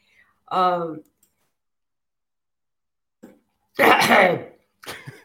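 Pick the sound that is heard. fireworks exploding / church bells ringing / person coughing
person coughing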